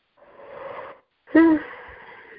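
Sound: yawn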